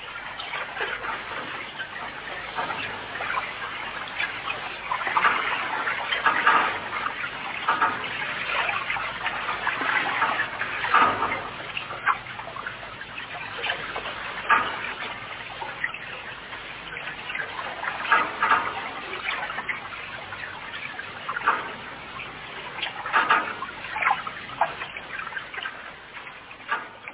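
Continuous flowing, splashing water, a steady rushing wash with brief surges and spatters, moderately loud with no voices.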